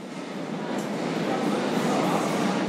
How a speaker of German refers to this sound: Die Polizeistreife ist immer noch im Berliner Untergrund unterwegs, jetzt am U-Bahnhof Gesundbrunnen.